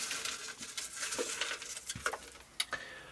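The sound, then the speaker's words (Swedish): A hand rummages through paper slips bearing names inside a golden trophy cup to draw a prize winner, producing steady crinkly rustling with a few sharper taps and scrapes. No one speaks. “stoppa ner handen i vår gyllene pokal där vi har papperslappar med namnen på de som hade alla rätt.”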